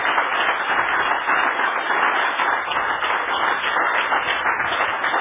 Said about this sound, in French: Applaudissez très fort maintenant.